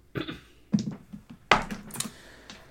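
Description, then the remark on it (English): Dice clatter across a hard tabletop in a few quick bursts of sharp, rattling clicks, fairly loud, with brief pauses between tumbles and no voices; a die rolls off 17 and lands on 8. “Fuck you, dice, for rolling off the 17 and onto the 8.”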